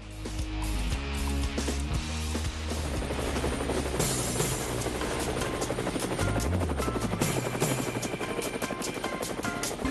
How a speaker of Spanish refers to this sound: Bueno, el helicóptero anuncia que vamos hacia alguna frontera, hacia algún horizonte,